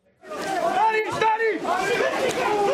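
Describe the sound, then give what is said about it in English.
A loud crowd of ethnic Serb protesters shouting and chanting outside a local government building in the town of Zvečan, northern Kosovo, trying to stop the newly elected mayor from entering his office, with police firing tear gas; many overlapping voices rising and falling in a continuous, agitated roar with no single speaker standing out. “Protesters had gathered here in the town of Zvečan trying to stop the newly elected mayor from entering his office.”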